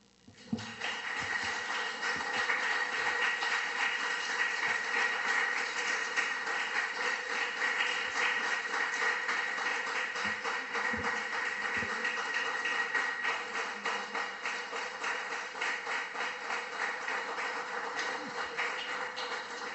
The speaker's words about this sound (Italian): Devo dire che dalla lunghezza dell'applauso evidentemente è stato apprezzato l'intervento.